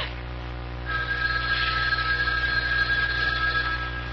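A house telephone, not a private line, rings with a call from the lobby downstairs in one sustained, high-pitched burst lasting a few seconds, heard alone over a low steady hum with no voices.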